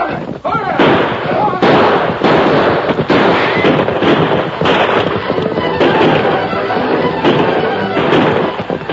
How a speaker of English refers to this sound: Led by the Lone Ranger, the Marshal and his posse thundered down the slope, their guns blazing. The outlaws wheeled and fought back, but they were fighting uphill, aiming into the sun.